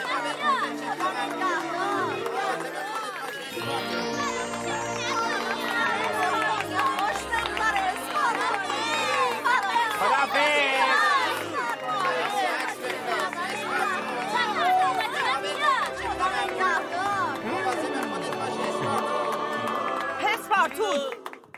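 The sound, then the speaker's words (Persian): A large crowd cheers and claps continuously for about twenty seconds, a dense, loud swell of overlapping shouts and excited voices with applause mixed into the roar. “این مرد خانواده و اهل دل رو یه تشویق جانانه کنید دوستان.”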